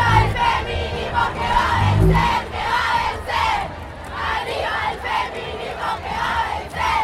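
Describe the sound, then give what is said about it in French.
A large crowd at a pro-abortion demonstration in front of the Argentine Congress chants in unison with a steady, rhythmic beat, voices rising and falling together in loud repeated bursts over a constant dense background roar. “Manifestation pro-avortement devant le Congrès argentin la semaine dernière, au milieu de la foule, un terrain improvisé de football dit féministe.”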